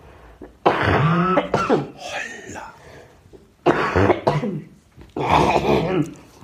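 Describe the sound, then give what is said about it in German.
Several rough coughs and throat-clearing bursts come in two clusters, sounding somewhat muffled, as a person coughs into the crook of an arm. “Entschuldigung, ich muss kurz in die Abhustarm husten.”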